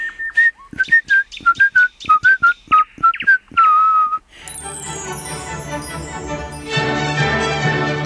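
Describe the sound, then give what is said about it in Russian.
A person whistles a quick, bouncy melody, the folk tune Kamarinskaya, in short clear notes for about four seconds, then full instrumental music takes over, playing loudly through the rest. “Какую мелодию вы только что насвистывали?”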